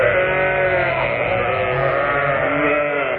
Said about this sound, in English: Whilst that record of sheep is being played